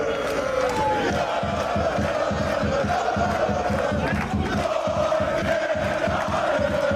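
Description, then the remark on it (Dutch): NEC football players and fans chant the supporters' chant 'Nooit meer naar Arnhem' in unison, loud and sustained, with the players dancing along and a steady rhythmic pulse of clapping or stomping running beneath the voices throughout. “En we zien de beelden van hossende NEC-spelers die meedansen op het lied Nooit...”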